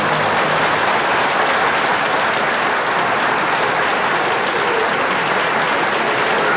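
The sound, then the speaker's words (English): A dense, steady wash of clapping from a large audience, loud and continuous throughout without any break or voices over it. “No applause, please. No applause.”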